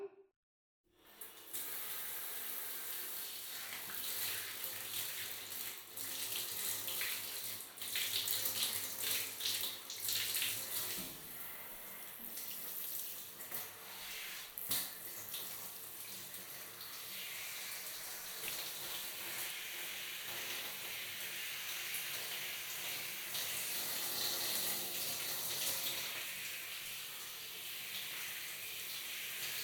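Steady running water pours for the full length, a broad continuous rush with slight splashing variations as it rinses off soap suds, like a tap or shower flowing into a tub.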